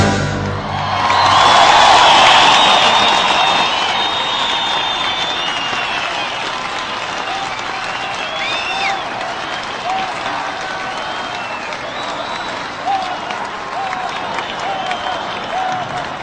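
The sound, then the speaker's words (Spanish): Sustained audience applause for a symphony orchestra, swelling to a loud peak in the first few seconds, then settling into steady clapping with scattered cheers and whoops throughout. “Vámonos, un aplauso muy grande a esta tremendísima orquesta sinfónica, por favor.”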